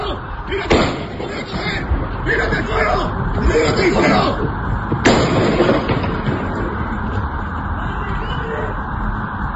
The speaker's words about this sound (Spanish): Escuchábamos ahí lo de tírate al suelo mientras se escuchaban esos disparos de fondo.